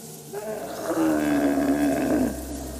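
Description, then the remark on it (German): A yak outside a camp after dark lets out one long, plaintive, moaning call, low and droning with a rough, buzzing tone, swelling and then tapering off after about a second and a half, with no voices. “Dann plaudern die Briten noch ein wenig unter sich im grünen Messezelt, bis sie einer nach dem anderen einnicken und sich ihr Schnarchen mit den klagenden Lauten der Yaks von draußen vermischt.”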